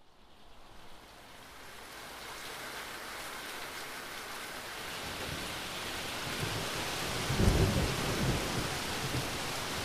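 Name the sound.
heavy rain with thunder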